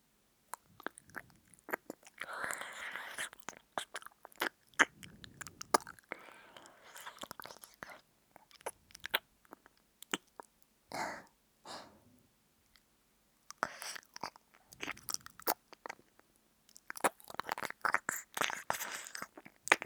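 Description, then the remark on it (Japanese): Ear licking by an older sister: wet, sticky mouth sounds with smacks and clicks arriving in irregular bursts and brief pauses, fairly soft throughout, with no one speaking. “いきなりお耳舐められてびっくりした。”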